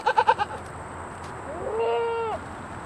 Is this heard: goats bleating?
yes